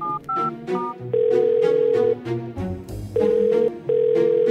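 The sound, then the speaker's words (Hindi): A few quick dialing beeps, then long steady ringback tones repeating as a phone call from Chaturpur police station connects, to have a mobile phone's location traced, with background music playing underneath and no one speaking. “Hello, मैं चतुरपुर थाने से बोल रहा हूँ, एक मोबाइल फोन की लोकेशन निकलवाओ।”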